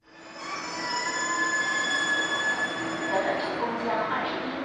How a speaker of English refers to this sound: People are traveling all over the place by subway and train.